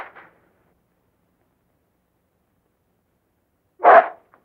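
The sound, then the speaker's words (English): A single sharp, fairly loud dog bark as the dog grabs a handkerchief from a woman's hand and tears it, breaking a long stretch of silence near the end; a faint brief sound is heard at the very start. “Hey, don't you call my dog a mutt?”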